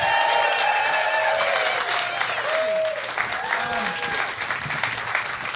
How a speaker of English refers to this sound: Please give a large round of applause for …,